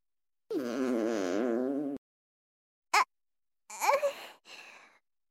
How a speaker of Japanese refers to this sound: すみません。聞こえましたよね。お腹が鳴ってしまいました。